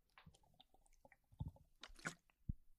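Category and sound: food or drink, sipping coconut water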